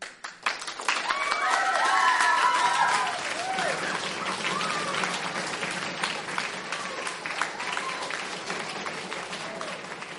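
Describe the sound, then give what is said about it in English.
A crowd applauds steadily for about ten seconds for a piece just shared, a dense patter of many hands clapping at moderate volume, with scattered cheers and murmuring voices rising through the first few seconds before settling. “Can we give a soft and beautiful round of applause for that beautiful piece that was just shared with us?”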